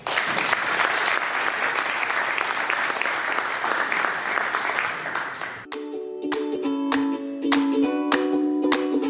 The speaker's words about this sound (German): Sie heißen ihn jetzt bitte mit einem riesen Applaus willkommen.